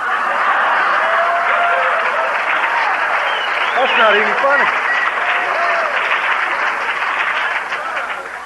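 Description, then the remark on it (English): A steady wash of audience applause runs loud throughout, with scattered laughter mixed in and a voice speaking briefly over the clapping before it tapers slightly at the end. “I can't even believe you're clapping and laughing.”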